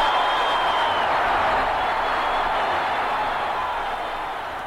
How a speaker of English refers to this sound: Swing and a long one into right field. Way back. Adios. And the Cardinals lead 4-0. It just got over the wall. It hit the concrete pillar. Came back on the field. And the Cardinal fans are crazy wild.